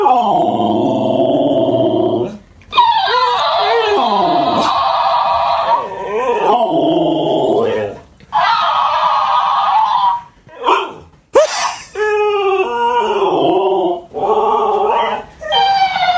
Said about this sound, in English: Well, this Alaskan Malamute does not like the new toy hamster that his owner brought home, and he seems to be arguing with it.